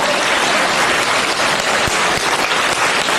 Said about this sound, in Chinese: 鼓掌。